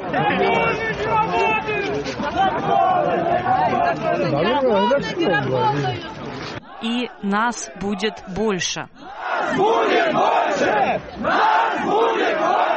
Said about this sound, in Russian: Собравшиеся скандировали на башкирском и русском «Свобода». Свободу! Свободу! Кричали, что законы не работают.